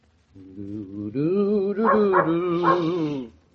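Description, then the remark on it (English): A dog barks in a long, drawn-out, wavering vocal cry lasting a few seconds, fairly loud, with nothing else audible around it. “Are you siding with that dog against my voice?”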